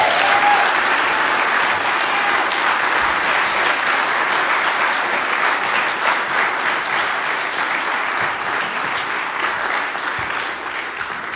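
Sustained applause from a large audience for a speaker who has just finished his talk, a dense steady wash of clapping that holds at a fairly loud, even level for over ten seconds, easing off only slightly near the end.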